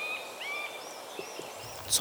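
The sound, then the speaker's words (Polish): A middle spotted woodpecker gives its nasal, mewing mating call from the other side of a clearing, a few drawn-out whining notes over faint background bird chatter, ending with a brief rustling noise. “A właśnie, dzięcioł, i to dzięcioł średni. Niesamowite, to jego głos godowy.”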